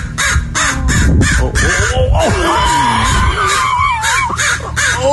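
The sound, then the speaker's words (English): A mother crow, angry at someone near her baby, caws loudly and harshly in rapid, agitated, insistent bursts, with people talking underneath throughout. “That crow's pissed.”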